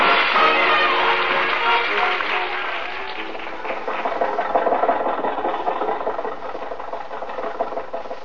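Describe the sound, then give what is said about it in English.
A car engine strains and labors continuously as the car climbs a hill, a dense rattling, sputtering drone that starts loud, eases slightly midway, then pushes on with a rougher, uneven chug. No one speaks. “think your car will make this hill, Jack?”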